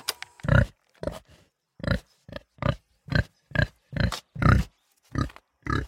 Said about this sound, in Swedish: Rätt svar. Det du hörde var en gris.